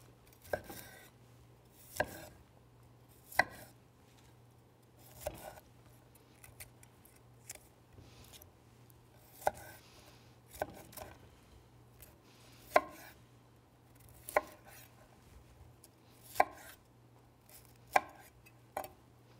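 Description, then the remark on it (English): A knife chops cauliflower into bite-sized florets on a cutting board, sharp irregular cuts roughly every second or two, clear over a faint steady hum with no talking. “So we're just going to dice this up into just common florets.”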